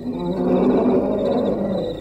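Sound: lion roaring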